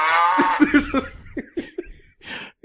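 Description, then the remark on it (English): A drawn-out, nasal cow-like moo sounds up close for about a second, then breaks into a series of short, choppy bursts resembling chuckling, ending with a brief breathy exhale. “It's making cow noises.”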